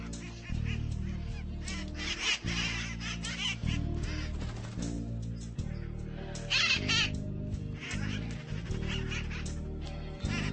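A pet bird named Connor, which has a blue head, calls loudly, letting out a steady run of harsh, honking squawks for about ten seconds with hardly a pause.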